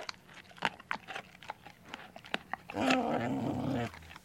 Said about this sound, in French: Ça jappe et ça aboie. C'est le chien qui mordille ses jouets en bois.